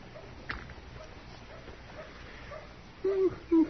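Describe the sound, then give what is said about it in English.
A dog whimpers twice near the end, two short, fairly high whining cries in quick succession, rising clearly above a quiet, hissy background after a long stretch of near-silence. “This dog sure ain't very lively today, is it?”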